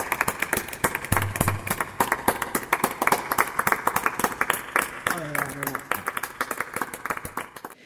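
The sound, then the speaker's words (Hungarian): Sustained applause from many people across a neighbourhood, with steady dense clapping throughout, mixed with cheering voices and whistling, like a crowd celebrating outdoors. “Remélem hallottátok ebből a videóból, hogy nem csak mi tapsoltunk, hanem a környéken sokan, és az emberek fütyültek és éjjeneztek, és hogy esténként ez megismétlődik,”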